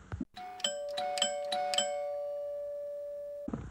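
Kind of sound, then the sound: household object, doorbell ringing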